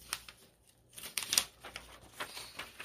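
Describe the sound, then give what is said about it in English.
Paper pages are shuffled in among other pages and rustled, with a few crisp, brisk flicks and swishes in a quick irregular rhythm, fairly quiet overall and no talking. “We'll maybe shuffle these in between the others.”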